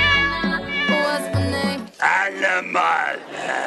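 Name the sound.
cat meowing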